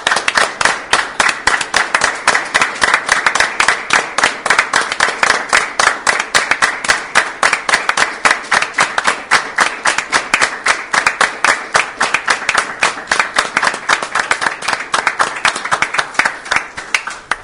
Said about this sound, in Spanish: Y quisiera proponer no un minuto de silencio, sino que nos pongamos de pie y le tributemos un aplauso por todo lo que ha sido su labor.